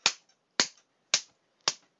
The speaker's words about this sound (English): Okay, so we're gonna record a couple of slaps now, just for effect.